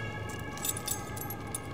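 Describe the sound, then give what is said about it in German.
Keys jangle and scrape as someone fumbles a key that does not fit against a lock, with small metallic clinks over a low, steady background hum from traffic. “Wahrscheinlich kommt man aber nicht mit dem Schlüssel hier rein.”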